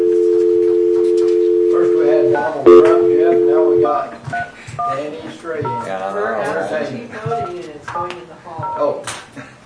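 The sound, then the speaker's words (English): Steady electronic telephone tones sound for the first few seconds, with one brief break, then give way to people talking. “I wanted to get him on the phone.”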